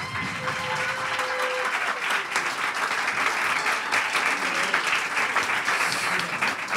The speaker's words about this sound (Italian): Allora, per Emanuele Laghi, applauso.